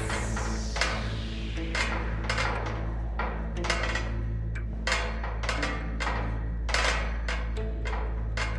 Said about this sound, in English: If you'd like to climb into your quiz pod, there's a ladder there. So if you thank can you. Try... I certainly will. Here we go. Up the ladder we go.